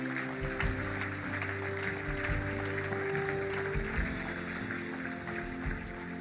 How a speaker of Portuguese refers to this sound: Será que podemos dar uma grande salva de palmas?